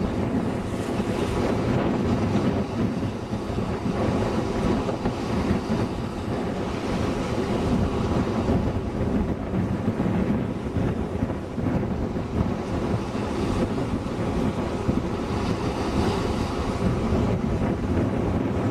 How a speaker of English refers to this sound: This wave action. Really, really strong waves.